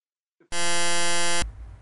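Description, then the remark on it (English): A loud, steady electronic buzz from a Microsoft computer's restart-required alert, harsh and tonal with many stacked harmonics, sounding for about a second before cutting off abruptly into low background noise. “That buzzing you heard just replaced the entire rest of this chapter that I already recorded.”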